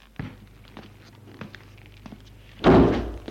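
A door swings shut behind a man walking away, with a single solid thunk near the end, preceded by a few faint footsteps or light taps in quiet surroundings.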